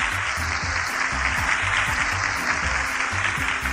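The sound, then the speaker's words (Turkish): Steady, dense applause from a crowd for a correct quiz answer, many hands clapping continuously at an even loudness for the whole stretch, with no one speaking over it. “Haydi bakalım alkışlayalım.”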